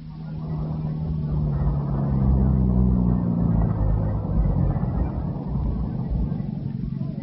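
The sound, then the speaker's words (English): A car engine rumbles low and steady, its droning tone sinking in pitch as the car, being brought around to collect a passenger, slows and pulls up, then keeps idling under a broad wash of noise. “Stay here, I'll bring the car around.”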